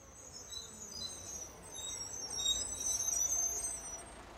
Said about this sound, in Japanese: バスが来たみたい。